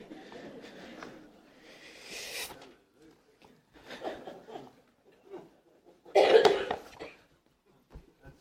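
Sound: sneeze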